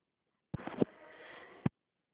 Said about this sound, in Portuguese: Ai, uma tosse, menino do céu.